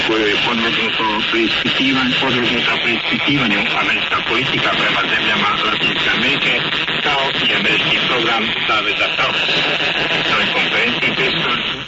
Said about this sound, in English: In the case of jammer splatter, the station on the adjacent channel is a jammer. Now here are the examples. First, adjacent channel interference. Now, an example of jammer splatter or spread.